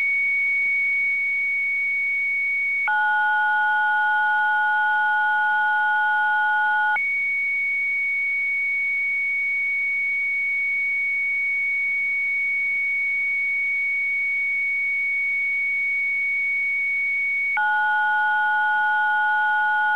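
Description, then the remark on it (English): Slow computer modem tones: long, steady electronic whistles that switch between a single high pitch and a lower two-note chord, each held for several seconds over a faint low hum. “Okay, that was a computer modem, a slow-speed computer modem.”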